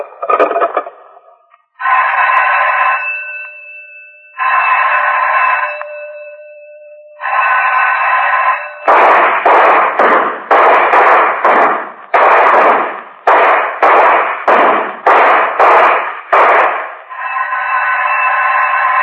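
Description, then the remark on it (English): Three loud, ringing bell tones sound in turn, then rapid-fire gunshots crack out at a shooting range on the third bell in the second half of a rapid-fire round, about a dozen sharp bursts in quick succession, before a steady ringing tone returns. “Second half of rapid fire, load and lock. Fire on third bell.”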